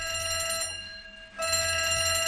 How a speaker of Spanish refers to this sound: 6:20 de la tarde, hora de París. Los guardias de seguridad escucharon la alarma del incendio en Notre Dame y comenzaron a evacuar al público que había, pero no vieron ningún indicio de incendio.